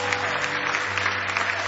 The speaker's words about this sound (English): How many of you are glad something is causing you to press on? Give the Lord another big hand clap of praise.